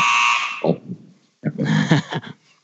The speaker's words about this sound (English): I knew I'd get a buzzer.